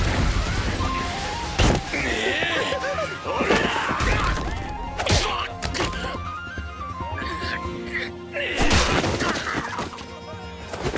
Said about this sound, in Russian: Кружка упала.